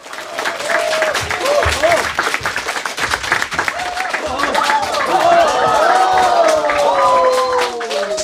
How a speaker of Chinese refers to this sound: 我们先把几位老朋友请上来，好不好？我们掌声欢迎